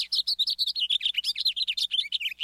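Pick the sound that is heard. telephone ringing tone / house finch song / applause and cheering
house finch song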